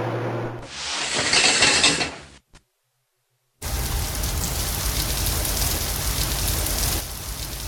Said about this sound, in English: The showerhead fired spears of water at Liz with the speed of tiny bullets, but she was accustomed to the hard spray. It was invigorating, forcing her to wake up